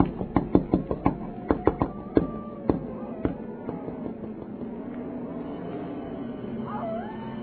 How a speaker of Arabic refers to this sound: غلا رأسه بالغضب فطرق الباب بشدة.